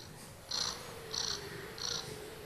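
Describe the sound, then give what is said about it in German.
A cat purrs quietly, three raspy, scratchy pulses in a steady rhythm, each breath a short rasping swell, with no talking. “Außerdem geben wir sie nicht ab, weil sie das süßeste Schnurren der Welt hat.”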